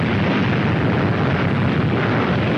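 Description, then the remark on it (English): A loud bomb explosion sound effect: a thick, continuous roaring rumble that stays at full strength from start to finish, with no speech. “There's a little bomb for you.”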